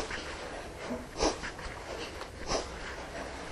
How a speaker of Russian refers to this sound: С выдохом прихлапываете живот к позвоночнику. Не напрягайтесь. Просто выдох. Акцент на выдох. Просто выдох носом.